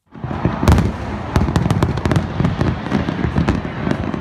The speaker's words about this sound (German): So klingt das eigentlich an Silvester unterm Zuckerhut. Tonnenweise Feuerwerkskörper werden da von Flüssen in der Atlantikbucht vor Rio de Janeiro gezündet. Ein gigantisches Spektakel.